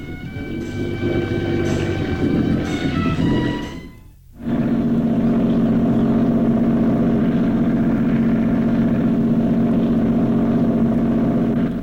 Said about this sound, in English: Columbo makes his way into the cockpit as Hollister reverses the boat away from the dock.